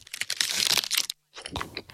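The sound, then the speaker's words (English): The wrapper of an Aero peppermint chocolate bar crinkles and tears open in a dense burst, then after a brief pause comes a crisp, crunchy bite into the bar. “This is an aero.”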